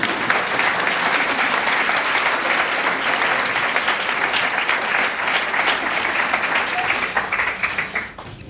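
Sustained audience applause, a dense steady wash of many hands clapping at an even loudness for about seven seconds before tapering off quickly at the end.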